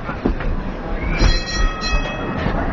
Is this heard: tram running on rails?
yes